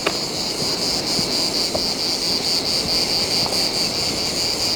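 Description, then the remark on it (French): A dense, continuous chorus of cicadas in the Bomban forest, a few hundred metres from the ocean, buzzes loudly and steadily throughout, a shrill insect drone with a faint wash of wind or surf beneath it and no voices. “Ici, un amas de cigales.”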